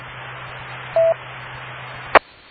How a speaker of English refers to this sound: Yeah, well, I know, and I think it's power supply noise from the photovoltaic cell, if I remember correctly, and it's a specific kind of interference, so they may be able to filter it out in software, but still, it's kind of amusing.